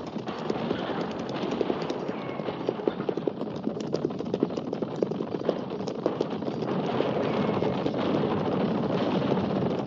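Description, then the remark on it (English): A group of horses gallops hard, with a dense, irregular clatter of hoofbeats over a steady rumble that grows louder toward the end. No voices are heard. “Guns, Captain. At the gallop!”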